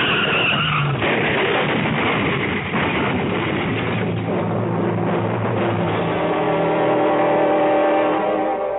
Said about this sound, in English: On an icy road in midsummer, two cars slide into each other, something that usually happens only in midwinter.